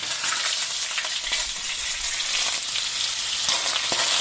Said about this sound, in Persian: این صدای سرخ کردن غذا احتمالاً آنزیم‌های گوارشی شما را فعال می‌کند و شاید با شنیدن آن هوس یک نیمروی لذیذ بکنید.